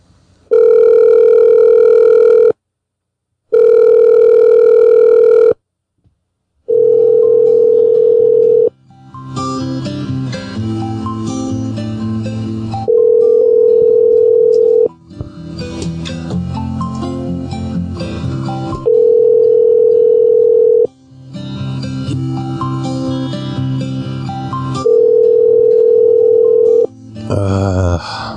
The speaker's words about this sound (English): Ringing phones.